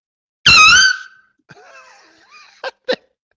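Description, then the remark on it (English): A loud, wavering blast from a small air horn, then a thin sputtering tone and two short choked bursts as the horn falters and dies out. “This is supposedly going to like save you, but it's like this air horn has asthma.”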